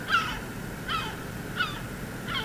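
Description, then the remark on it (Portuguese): Seagulls call four times at a shipyard in a steady, evenly spaced series of harsh, slightly nasal cries, over a faint low rumble of background noise, with no voices. “Gaivotas que não chegam para quebrar o silêncio sepulcral que se vive nos estaleiros.”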